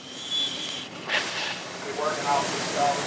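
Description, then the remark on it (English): A giant red high-pressure water cannon drawing seawater hisses steadily against the hull of a shrimp boat at the waterline, spraying off oil, a broad rushing spray that swells in a few surges over several seconds. “Mayo aims the high-pressure spray low, where the simple man's hull meets the water.”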